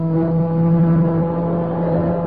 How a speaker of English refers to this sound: Patrick, quick, stop sounding the siren.